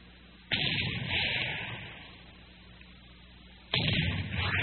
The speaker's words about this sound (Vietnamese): Dài tiếng súng vọng về từ hướng Phú Long. Đàn cò trắng đang đậu trên ngọn cây gáo giữa đồng, giật mình bay tủa.